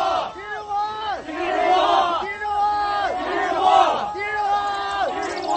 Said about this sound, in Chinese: 蔡元培躲在门卫房里，表情呆然地听着轰然涌动的脚步声和口号声。